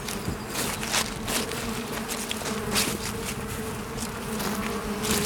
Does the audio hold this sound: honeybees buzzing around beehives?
yes